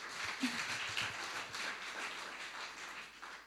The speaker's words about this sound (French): Ah, tu peux quand même, voilà. Elle mérite un applaudissement.